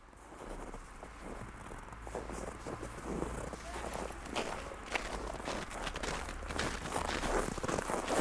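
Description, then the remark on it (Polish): Quick, regular footsteps of a man running along an empty housing-estate side street in the evening, fairly loud, with a steady low rumble of outdoor noise underneath. “Czemu pan biegnie?”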